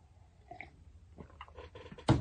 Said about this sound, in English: Again, that gave me a chance for get a sip here.